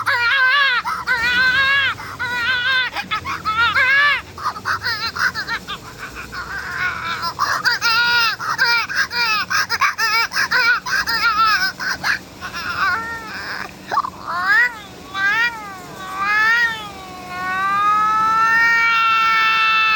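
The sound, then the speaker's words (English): A baby in a commercial from France cries in a series of loud, high-pitched, wavering bursts, ending in a longer drawn-out wail. No one speaks over it. “And here is one of the highest scoring baby clips in this commercial from France.”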